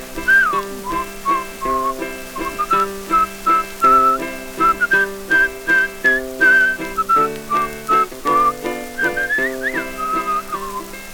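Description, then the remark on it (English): Someone whistles a cheerful, wavering melody, carried over steady, rhythmic chordal accompaniment that pulses beneath it throughout. “Well, even me whistles on the bum.”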